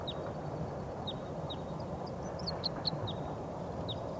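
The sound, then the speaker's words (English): Wild bird song: a series of short, high-pitched chirps repeating at an uneven pace, moderately loud over a steady low background hiss, with no talking. “I think there's some wild birds coming in. I hear a song of a wild bird.”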